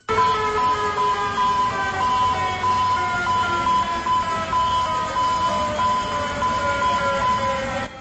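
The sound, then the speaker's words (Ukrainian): A modern distress-signal siren sounds in the Atlantic port of Caracas, Venezuela, a loud, steady, multi-toned wail that holds for about eight seconds with slight pitch drift, over a low mechanical rumble and no voices. “Щойно ви чули звуки сучасного сигналу біди у Атлантичному порту Венесуели Каракасі.”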